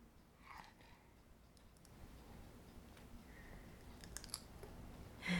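A baby crunches on a breadstick with their front teeth, giving scattered small crisp crunches and clicks over a quiet hum, with a louder crunch at the very end.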